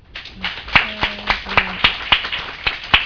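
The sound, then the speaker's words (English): Steady, evenly spaced hand claps from a convention panel audience applauding the panelists, about a dozen crisp slaps at a brisk rhythm, with a faint murmur of voices briefly underneath. “I want to go ahead and wrap this up with a round of applause for our panelists.”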